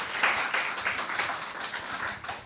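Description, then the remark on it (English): An audience applauds the speakers at a talk, a dense, steady patter of many hands clapping together at a moderate level, holding fairly even through the whole stretch with no voices. “Please give a round of applause for our speakers, just to make them feel welcome.”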